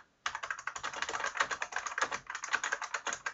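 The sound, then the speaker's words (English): Rapid, loud clacking of keys on a special-ordered vintage-style mechanical keyboard, a dense stream of sharp clicks starting abruptly and continuing steadily, with no voices. “he special ordered a keyboard that's like a vintage keyboard”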